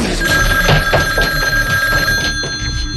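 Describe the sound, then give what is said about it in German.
A telephone rings steadily with a bright, trilling electronic bell tone, loud, repeating in short bursts over a low background hum with no one speaking. “Sie hat heute schon dreimal angerufen und lässt nicht locker. Sie ist es. Ich spüre es. Hat Ihr Telefon eine Lautsprechertaste?”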